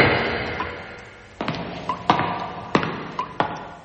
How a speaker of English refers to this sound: I wonder who the hell he was, knocking at this time of night.